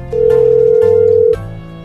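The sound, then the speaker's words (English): A telephone line tone sounds once as a call is placed, a steady, loud electronic hum holding for just over a second before cutting off, with no one talking. “Let me find that number. We're going to call them up.”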